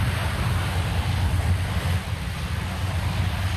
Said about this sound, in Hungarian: Így száll fel egy AN-26-os, a Gripenek mellett ezeket az ANCSA-nak becézett szállító repülőket is láthatják majd az érdeklődők a helyszínen és otthon a televízió képernyőjén.